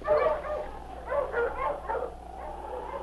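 sled huskies barking

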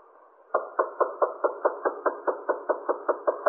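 key turning

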